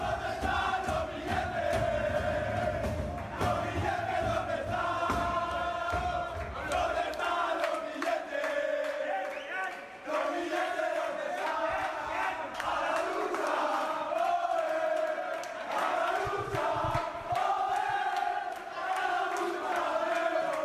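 The Fuenlabrada football team celebrates together in the locker room after a victory, shouting and chanting in unison with loud, rhythmic cheers and whoops that keep going without pause, a rowdy victory chorus.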